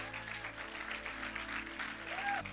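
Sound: audience clapping hands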